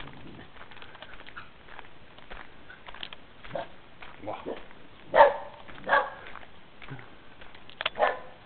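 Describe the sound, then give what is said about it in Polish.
A small dog barks in a few sharp, scattered yaps over low background murmur, the loudest bursts coming near the end, moderately loud. “Mój ulubiony piesek jest.”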